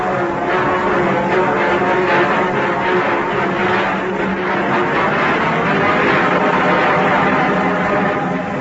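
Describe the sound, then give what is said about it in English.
A large, massive-seeming passenger train rolls into a station, its loud, steady mechanical rumble and droning hum filling the whole stretch without letting up. No voices are heard. “The train rolls in.”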